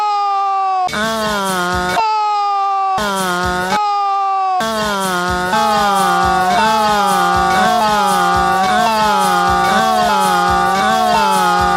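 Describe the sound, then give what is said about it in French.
A homemade siren gives a loud, buzzy wailing tone, swapping back and forth with a second, rougher siren in short bursts before the two blare together continuously with a rising-and-falling pitch. “Alors tentons d'en faire une deuxième sirène.”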